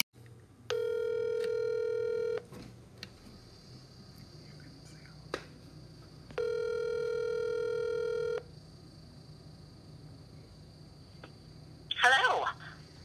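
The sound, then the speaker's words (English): A phone line rings twice as a call is placed to a listener, each long electronic ring burst lasting nearly two seconds with a gap between, followed by a brief clatter as the call connects. “So let's get them on the phone real quick, and then we'll hear their real life animal encounter.”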